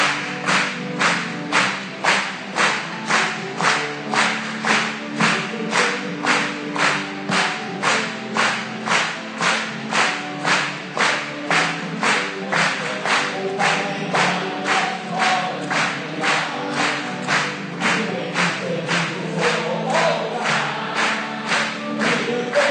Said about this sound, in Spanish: Vamos a aplaudirle a él. Una vez más.